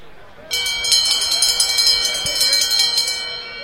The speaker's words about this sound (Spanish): Y con el sonido de la campana arranca ya la última carrera del día de hoy. La cuarta carrera patrocinada por Toyota Nima Auto. 1.800 metros, hasta 9 ejemplares pura sangre para esta carrera que va a culminar con Doña de Fondo con el atardecer.